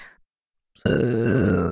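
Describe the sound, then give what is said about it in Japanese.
After a faint breathy sound and a short silence, a loud, drawn-out belch erupts abruptly and rumbles on steadily. “でしたら、お兄さんを惚れさせるゲップをたくさんしなければなりませんね。”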